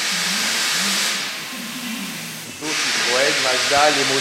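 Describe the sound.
A loud, steady hiss fills a car workshop, dropping out briefly before surging back, while faint voices and low mechanical tones murmur underneath.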